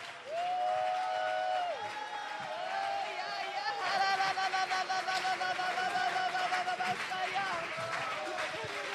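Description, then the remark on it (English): A crowd, urged by a preacher speaking English with German interpretation, claps their hands with all their might while many voices shout unto God together, the sustained clamour staying loud throughout and growing fuller after the first few seconds. “clap your hands in die Hände with all of your might mit ganzer Kraft and shout unto God.”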